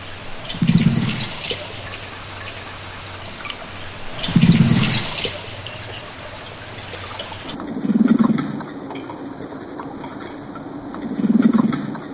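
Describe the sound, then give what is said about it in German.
A carp underwater gives four short, low cooing grunts, spaced evenly a few seconds apart, over a steady watery hiss with no talking, as it chatters with another carp on a summer night. “Plötzlich hört man immer ein Gurren wie ein Meersäule.”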